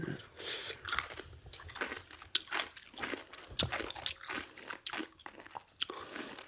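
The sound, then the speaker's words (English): Crisp crunching as someone bites and chews radish sauerkraut, firm and wet, with irregular bursts of crackly chewing noises over several seconds and no talking. “It's crunchy.”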